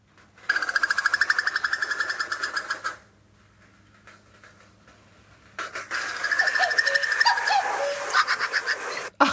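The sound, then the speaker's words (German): A female cuckoo's bubbling, giggle-like call: two rapid trilling bursts, the first about two seconds and the second longer after a brief pause, clear with no talking. “Der Ruf des Kuckuckweibchens.”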